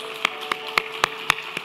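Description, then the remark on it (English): An audience claps together in slow, even unison, applauding the day after giving thanks to God: six sharp claps about a quarter second apart, over a faint steady hum with no voices. “Let's applaud this day, okay?”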